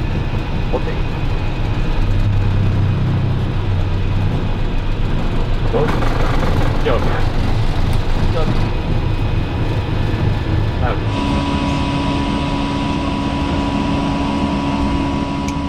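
airliner taking off

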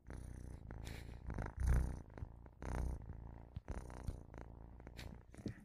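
kitten purring

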